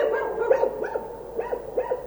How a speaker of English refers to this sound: … made some audio art out of dog barks in his piece ….